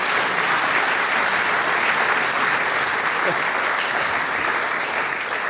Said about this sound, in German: Mit einem kräftigen Applaus.